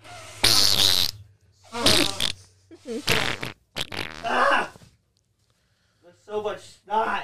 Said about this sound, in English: I got to blow my nose.